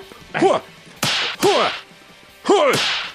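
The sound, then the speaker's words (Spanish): A slap sound effect: three loud, sharp smacks land in quick succession, each hit arriving with a swift whooshing swing and a short ringing tail, punchy. “eso que no es lo puño, eso acompaña. es cachetada.”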